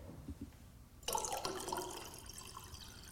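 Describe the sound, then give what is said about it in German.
A sudden rush of liquid starts about a second in, a bright fizzing, splashing pour of sparkling tap water that carries on steadily to the end after a quiet start. “Ja, und ansonsten, ich fange mal an, was ich heute trinke, und zwar einen 2021er Jahrgang Leitungswasser gesprudelt.”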